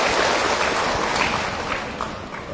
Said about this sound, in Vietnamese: Xin quý vị dành một tràng vỗ tay để lắng nghe sự giải thích của sư Giác Hoàng.